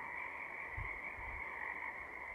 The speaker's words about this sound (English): The familiar sound of a frog chorus in this part of the Pacific Northwest has come to mean that spring has arrived.